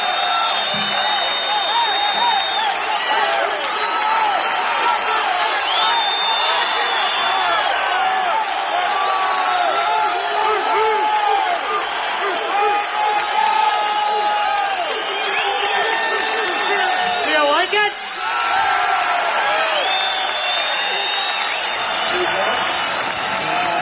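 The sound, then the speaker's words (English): A large concert audience roars with sustained cheering, whistles and high whoops after a band's set, a dense, loud wash of many voices that keeps going steadily for the whole stretch with no pause. “And as you can tell, the crowd really does enjoy the music”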